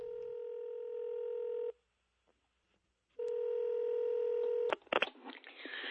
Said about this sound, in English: So it's been a challenging week for the president. He's back at home. And maybe he's even receiving a phone call.